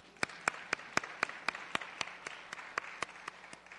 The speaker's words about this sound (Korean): 우리 김 목사님에게 제가 박수를 드리고 싶어요. 저는 그래요. 여러분 같이 치고 싶으면 치세요.